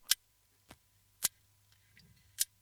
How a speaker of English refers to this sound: Oh, that clicking you hear, it's the rig shark from New Zealand. It's only about 5 feet long. And scientists at the University of Auckland believe this may be the first ever recording of a shark making noise.